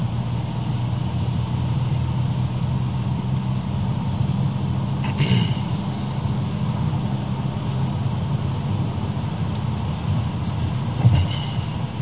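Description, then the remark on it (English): Steady, droning road noise from inside a moving car as it speeds up again after passing through a speed trap, a low rumble holding constant throughout with a couple of brief bumps, and no one talking. “No, now I can speed up again.”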